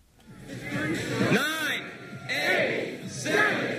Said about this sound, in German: 7.49 Uhr Ortszeit, 13.49 Uhr in Deutschland. Im NASA-Kontrollzentrum an der Hopkins-Universität in Maryland erheben sich die Wissenschaftler und Journalisten von ihren Stühlen und jubeln.